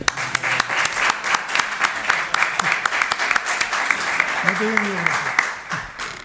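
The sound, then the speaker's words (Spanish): A steady burst of applause, many hands clapping in a dense, crackling patter for several seconds, with a brief voice rising over it near the end. “Pero desde luego creo que se merece un aplauso.”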